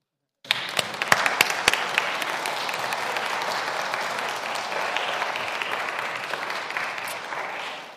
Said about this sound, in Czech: Amen. A teď můžete zatleskat.